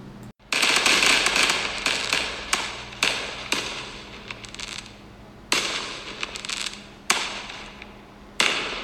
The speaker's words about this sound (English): Aren't the fireworks so nice? Happy 4th of July!